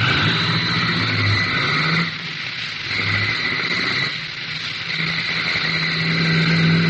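A car engine roars steadily and accelerates, its hum dipping briefly twice as if shifting gears before building again. No voices are heard over the engine.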